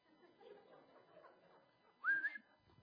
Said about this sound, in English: Well, for some reason, that peacock, and it's a hen, endeared herself to me. I like the peacock. Now, I'm not coming to church with it on my shoulder, like, you know, but I just like it. As a matter of fact, when I whistle, she comes running.